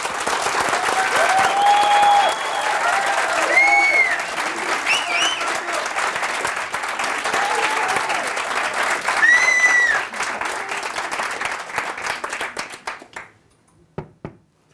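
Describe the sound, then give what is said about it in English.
An audience claps loudly and steadily for about thirteen seconds in a clapping contest, with a few whoops and cheers rising over the applause before it thins out into scattered last claps. “I'm going to ask, I have to ask you to join me in a little joke, because the guy next to me is my ex-partner, and he said, I'm going to have a clapping contest with you.”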